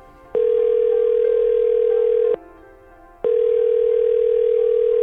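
A telephone tone for an outgoing call placed to someone around the world sounds as a steady, mid-pitched electronic hum in two long bursts of about two seconds each, separated by a brief silence, with no voices.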